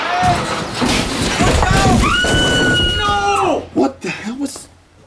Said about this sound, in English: Oh, my God! He smashed right through the skull! The skull in question was the fiberglass stage set, which now had a lighting bar protruding from its temporal bone.